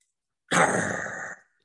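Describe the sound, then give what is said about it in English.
A person voices a single rough, snarling dog growl, loud, starting abruptly and rasping steadily for about a second before cutting off into silence. “What is it I'm hearing? The growls of a dog?”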